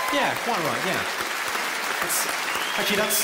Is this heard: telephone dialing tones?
no